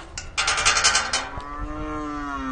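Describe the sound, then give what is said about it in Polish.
A young calf in a cowshed lets out one long, drawn-out moo, after a few seconds of rustling and clattering noises. “Tu nieopodal jest obora, w której stoi mały cielak.”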